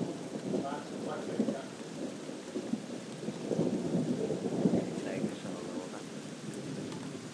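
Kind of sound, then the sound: nature, thunder with rain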